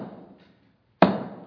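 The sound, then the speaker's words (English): A hammer drives a nail into a wooden cross: the ringing tail of one blow fades into a brief silence, then a single sharp, loud strike lands and rings out, with no voices. “As Jesus spread his arms and was nailed to the cross for you and me.”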